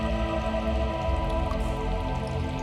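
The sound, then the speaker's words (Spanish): Water drips and patters steadily at the first public fountain in Sorbilán, a continuous wet trickle of overlapping drops at an even, moderate level, with no voices present. “Se encuentra usted en la primera fuente pública que hubo en Sorbilán, y que tiene detrás una historia muy curiosa.”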